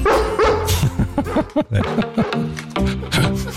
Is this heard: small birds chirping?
no